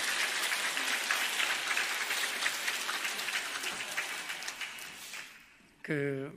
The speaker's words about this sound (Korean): 제가 설교하러 나올 때마다 여러분이 박수를 쳐주셔서 제가 어찌할 바를 모르겠습니다.